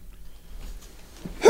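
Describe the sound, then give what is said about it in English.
After a quiet stretch, a single loud, sudden sneeze bursts out at the very end, sharp and breathy with no talking around it. “Bless you.”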